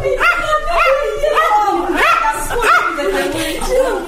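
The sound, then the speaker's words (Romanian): A small dog yaps and yelps repeatedly, its high, whiny barks coming in a quick, steady series with rising and falling pitch. “Eu am adus numai cățelul.”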